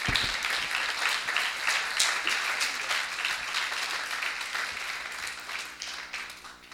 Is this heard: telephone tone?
no